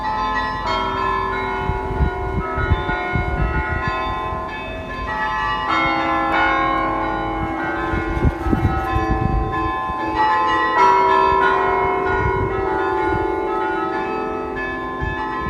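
The bells of the huge Dom cathedral in the centre of Utrecht, known for its great variety of bell ringing, peal continuously in a rich, layered chime. Many tones overlap and ring out loudly with a steady rhythm of strikes and a long resonant hum. No voices are present.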